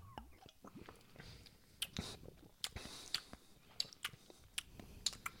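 human body sound, lip smacking

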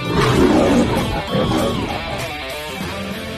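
animal, lion roaring

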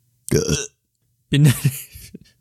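human body sound, burp

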